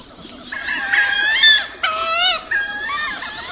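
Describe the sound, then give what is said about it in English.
Wood ducks calling: a run of high, squealing whistles that slide upward, several overlapping and fairly loud, carrying on for a few seconds with two brief breaks and no voices. “Wood ducks, such as those we're hearing here, have increased more than 200% in the past 40 years.”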